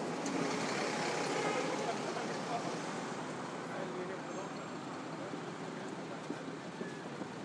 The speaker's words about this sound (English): Probably get an idea of how much traffic is going round in front of us here. It's not quite the Arc de Triomphe, but... I still feel quite vulnerable standing here. It's like nervous laugh. Traffic is not stopping, no.